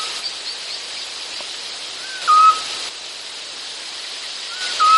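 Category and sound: bird, eurasian scops owl call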